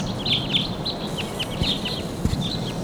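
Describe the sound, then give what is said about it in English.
A flock of wild birds flying right over calls continuously, with many short, high, downward-sweeping chirps overlapping in quick succession above a steady rushing background noise and a few low thumps. “Birds.”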